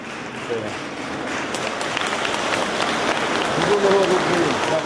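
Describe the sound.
Steady, dense applause from a crowd lasts the whole time as Ukrainian heroes come up one by one to receive awards, with voices calling out thanks over the clapping, one shout rising more clearly near the end.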